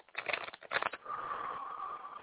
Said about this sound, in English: All right, I'm shuffling these beautiful Mother Tarot cards